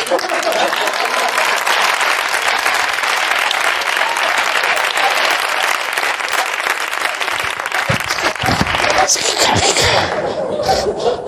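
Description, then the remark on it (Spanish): Sustained, loud applause from a crowd, clapping for the elections held in Catalonia, goes on for several seconds, then thins out with a few scattered claps and murmurs near the end. “¿Pero cómo puedes aplaudir unas elecciones?”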